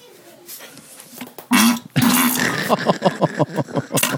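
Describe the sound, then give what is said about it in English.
A recorded fart plays back: a sudden loud pop, then a longer low, buzzing blast, followed by a run of choppy voiced sounds that may be talking or laughter. “He doesn't even sign his fart.”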